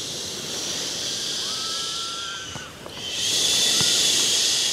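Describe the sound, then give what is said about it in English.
Sea waves wash steadily onto a sandy beach in a constant hissing roar, easing briefly before a fresh wave surges back in louder. There is no talking. “There's the sound of the sea and the waves, so that's rather nice.”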